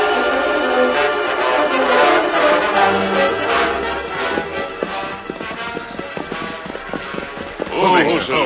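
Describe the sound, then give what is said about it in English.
Hooves of riding horses clop in a quick, uneven rhythm, growing more distinct in the second half, layered over a busy, tonal background, with a brief voice-like call near the end. “Now we can water the horses here.”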